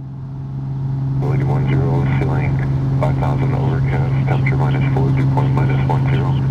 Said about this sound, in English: Before long, the plane accelerates towards the end of the runway, and we're off.